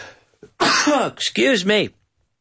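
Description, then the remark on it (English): A loud, abrupt sneeze during a live online show, in two quick bursts, a voiced, breathy build-up followed by a sharp, noisy release with a falling vocal tone, lasting a little over a second with no talking. “That doesn't happen very often, but I just sneezed.”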